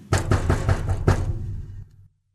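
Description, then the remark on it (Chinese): Six loud, forceful knocks on a door, delivered fast in an uneven rhythm, each with a hollow wooden thud: a rabbit angrily pounding on the squirrel's house door. The last blow rings out briefly before silence. “它气呼呼地跑到松鼠家，用力地敲门。”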